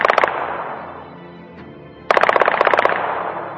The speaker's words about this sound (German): Als die Uhr am Freitag 21.30 Uhr zeigte, waren im Hauptquartier des Generalstabs in Ankara Schüsse zu hören.